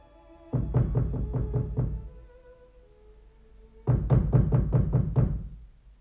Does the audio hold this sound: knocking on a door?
yes